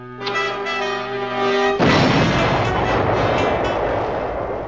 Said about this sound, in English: They must have heard the explosion, Max.